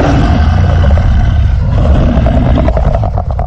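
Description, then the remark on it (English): A deep, rough werewolf growl rumbles loudly and without a break for a few seconds, gravelly and snarling, with no voices over it. “I mean, take that infamous werewolf, for example.”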